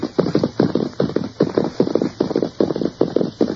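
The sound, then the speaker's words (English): The hooves of a horse being ridden clip-clop in a steady, quick rhythm, each step a sharp knock repeating in clustered beats. The hoofbeats are fairly loud, with no talking over them. “Now, you ride ahead and ask if we can water our horses.”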